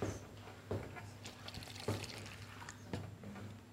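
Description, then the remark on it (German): Cold water pours softly into a dish in a few short splashes while rusks are soaked for a tiramisu, with a steady liquid trickle and faint low hum underneath; no one speaks. “Ich mache das auch mit kaltem Wasser, weil dass die Zwiebacke nicht so durchmatschen, sonst fallen sie mir gleich auseinander, wenn ich sie da reinbringen möchte.”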